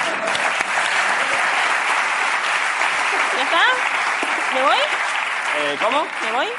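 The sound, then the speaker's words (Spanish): Steady, dense applause from a crowd fills the whole clip at an even loudness, with a few voices and whoops rising over the clapping toward the end. “Sí, pero no era con este aplauso.”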